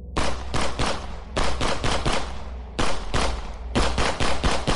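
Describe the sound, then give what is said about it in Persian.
Rapid bursts of automatic gunfire from terrorists attacking a hotel crackle in quick succession, loud, with brief gaps between volleys and no voices. “یکی از این نظافتچی‌ها خودش رو جلوی شلیک تروریست‌ها قرار میده.”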